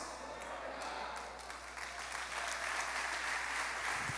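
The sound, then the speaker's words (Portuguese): An audience applauds the Lord in a steady, dense wash of clapping that swells slightly louder toward the end, with no voices rising above it. “Amém, aplauda o Senhor.”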